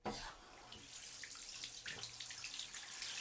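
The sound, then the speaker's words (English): A steady, continuous rush of water pours from a tap, filling a bath, a hissing splash that holds at an even level throughout with no voices. “If you fill the bath, it uses about 80 litres of water.”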